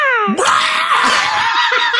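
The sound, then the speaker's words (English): A falcon call: a brief descending whistle-like note breaks into a loud, harsh, sustained screech lasting about two seconds, prominent with nothing else underneath. “That was a falcon call.”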